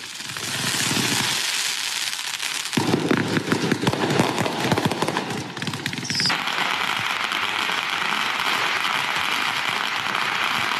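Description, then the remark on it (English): Heavy-duty fireworks, not sparklers or bottle rockets, set off in New York crackle and pop in dense, rapid bursts against a steady wash of noise, with a sharper, busier stretch in the middle. No one speaks. “Now, because of Black Lives Matter summer, a lot was going on, including fireworks that were totally out of control.”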